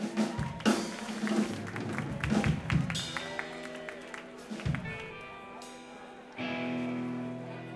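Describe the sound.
An audience applauds a band with scattered, uneven claps and crowd noise over a few seconds, with voices mixed in, then the clapping fades into steady sustained tones.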